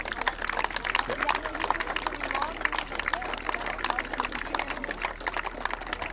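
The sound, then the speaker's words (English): An audience applauds steadily for about six seconds, a dense, crackling wash of many hands clapping at an even, moderate loudness with no clear pauses. “And the audience is applauding.”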